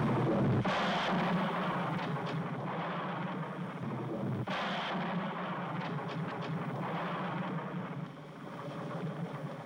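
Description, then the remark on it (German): A thunderstorm with steady, dense rain hiss and two heavy thunder cracks, one early and one midway, each followed by a long rolling rumble. Nobody speaks. “Der Regen prasselte, Blitze zuckten und ein Donner donnerte.”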